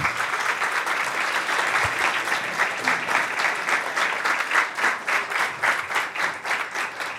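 An audience applauds steadily for several seconds, a dense wash of many hands clapping that grows more rhythmic and pulsing toward the end, with no voices over it.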